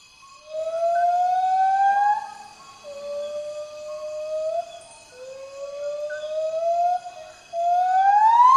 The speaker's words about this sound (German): So klingt ein Borneo-Gibbon. Wir haben ihn heute Nacht gehört, als wir eigentlich schlafen wollten. Ein sehr, sehr lauter Ruf.